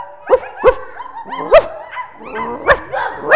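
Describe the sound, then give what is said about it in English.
Several people imitate a dog's barking, a quick series of sharp woof-like yelps, some overlapping, with short gaps between them and no other sound around. “What's something else we could imitate? A dog. How would we imitate a dog?”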